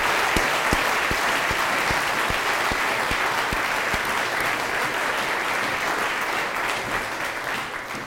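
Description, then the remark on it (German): Sustained applause from a church audience for the children of the Christmas nativity play, dense steady clapping with a few sharper individual claps standing out early on, tapering slightly toward the end. “Das ist auch nochmal ein Applaus wert für euch.”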